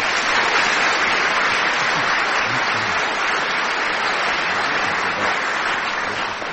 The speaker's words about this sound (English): Let me give you their names, after which there will be a burst of spontaneous applause.